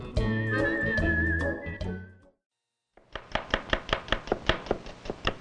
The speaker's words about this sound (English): I'm chopping onions for French onion soup.